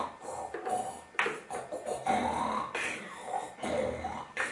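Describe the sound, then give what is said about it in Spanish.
A voice imitates how someone snores when asleep, with a series of rough, rasping snorts in an uneven rhythm, fairly loud, with no other talking. “tú cuando duermes roncas como un carretero.”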